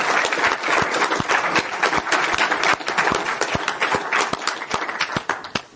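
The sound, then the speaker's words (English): An audience applauds a speaker steadily, dense overlapping claps at a consistent, fairly loud level for several seconds, with no one speaking over it. “let's give Patrick another round of applause”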